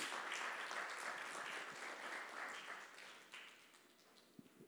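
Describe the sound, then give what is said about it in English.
A crowd claps in a dense, steady round of applause that gradually thins and fades, with a few scattered claps lingering at the end. “Would you give her a round of applause, my great friend?”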